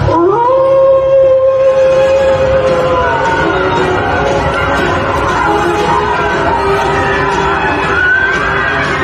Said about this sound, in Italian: Guarda, c'è un video che sta girando, che ci hanno segnalato, in cui in Cina sono riusciti ad addestrare dei lupi per uno spettacolo.